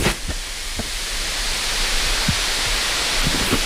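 A steady, loud hiss of steam rising off water poured onto hot rocks in a cooking oven layered with leaves and ferns, broad and continuous, with a few faint pops and crackles scattered underneath.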